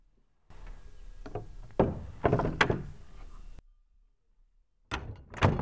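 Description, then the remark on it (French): The wooden door of a small white wooden church in Oregon is pushed open, with about three seconds of creaking, rattling and knocking. After a brief silence, another short, loud wooden clatter follows. “Il poussa la porte.”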